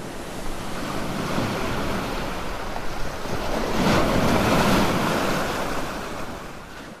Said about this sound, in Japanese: その時激しい波が来た。